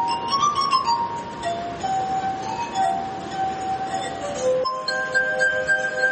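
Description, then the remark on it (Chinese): Sustained, ringing glass harp tones played as a melody on rubbed crystal glasses, pure singing notes gliding one into the next, clear with no voices. “图纳用玻璃琴演奏各种各样的乐曲”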